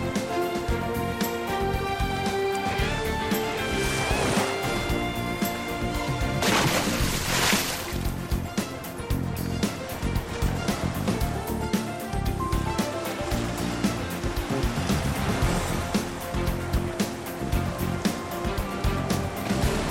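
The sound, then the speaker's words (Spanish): Gentle sea waves lap and wash continuously at a steady, moderate level, with a fuller surge of surf partway through and a tonal, music-like layer running underneath. No one speaks. “Como nos gusta este sonido de las olitas del mar”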